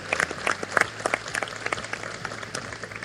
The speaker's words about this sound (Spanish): Hay que aplaudirlos. Claro que sí, claro que sí.